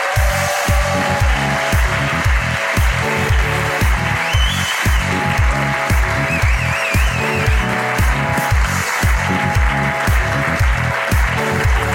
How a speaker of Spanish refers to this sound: Un aplauso